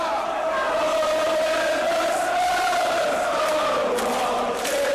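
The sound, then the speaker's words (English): A large soccer crowd at a Tottenham match chants in celebration after a goal, a sustained, droning unison with voices holding a steady pitch that dips slightly near the end, loud and continuous with no clear words. “And now the crowd is going into a celebratory chant of unaudible English gibberish.”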